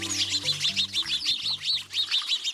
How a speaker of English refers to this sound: Like preteens at a swimming pool, this flock of house sparrows chatters as it splashes in a birdbath.